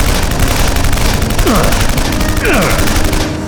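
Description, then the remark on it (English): Loud, relentless gunfire from a 9mm handgun, shots cracking in a rapid, steady stream, with a couple of brief descending whines cutting through the barrage. No one speaks. “A second motorcycle spun out of control as the soldier threw three 9mm hollow points into the driver's chest.”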